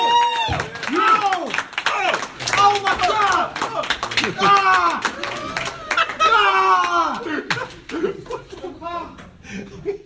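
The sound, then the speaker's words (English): Audience applause as a performer is introduced on stage: steady, dense clapping lasting about ten seconds, mixed with loud whooping and cheering voices and some laughter throughout. “So get round of applause going, everybody,”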